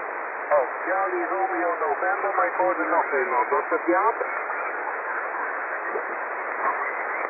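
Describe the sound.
A faint, muffled voice comes through a narrow-band radio channel, buried under a constant hiss of heavy static that continues after the speech fades out.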